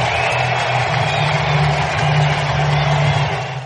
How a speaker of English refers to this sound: and now Felix takes his cap off. Big roar. Listen to this crowd.